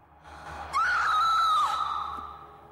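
A woman tilts her head back and takes a sharp intake of breath that suddenly rises into a high, sustained scream lasting about a second, then trailing off into a breathy fade. No one speaks.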